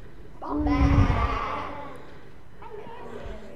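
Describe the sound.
A crowd of people moos together in imitation of a cow, cued by a binder picture of cows during a practice: a loud, drawn-out group "moo" swelling and fading over about a second, followed by a softer scattered trailing moo.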